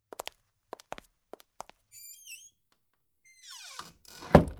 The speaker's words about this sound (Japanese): 今も、あなたが扉を開けるべきなのに、私が開けていますしね。